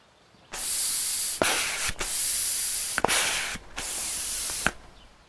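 Air hisses loudly from a tire inflator at a gas station as tires are reinflated, in four steady bursts, each broken by a brief pause with a small click, with no voices present.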